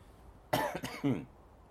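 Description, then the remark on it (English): A short fit of two or three harsh coughs in quick succession, loud against a quiet background, with no talking. “Pardon me once again for coughing, it just catches you”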